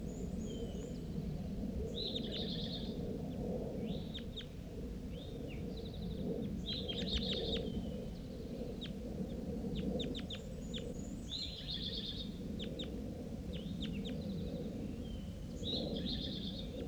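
A bird calls repeatedly, giving short, bright chirps and quick trilled notes in bursts every second or two, set over a steady low rumbling background noise.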